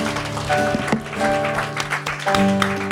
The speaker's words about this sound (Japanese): アメン。主に拍手を捧げましょう。 Let's give claps to the Lord.